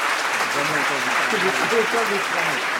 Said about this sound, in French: Nous applaudissons nos candidats.